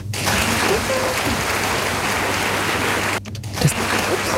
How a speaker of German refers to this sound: Das Ding ist, der Joschka, der hört gar nicht, dass wir so einen Applaus immer anmachen. Der hat die Kopfhörer gar nicht auf. Das hörte sich gerade an, als wären hier 30.000 Menschen drin.